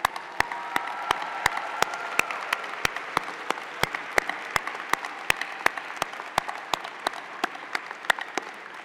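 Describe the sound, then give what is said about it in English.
A large audience at a Class of 2023 graduation ceremony applauds steadily for about nine seconds. The graduating students stand to applaud the family, friends, caregivers, supporters and mentors who helped them. It is a dense wash of clapping with sharp, evenly spaced claps beating on top. No one speaks. “Graduating students, please rise and join with me in giving a round of applause to the family, the friends, the caregivers, supporters, and mentors who helped you get you where you are today.”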